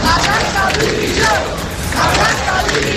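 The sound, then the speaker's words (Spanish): A large crowd at a Víctimas del Terrorismo protest in Spain against government prison policies shouts and chants in unison for the resignation of Interior Minister Fernando Grande Marlaska, a loud, dense roar of many voices that surges in waves, dipping briefly before swelling again. “En la que se ha gritado, como escuchas, por la dimisión del ministro del Interior, Fernando Grande Marlaska.”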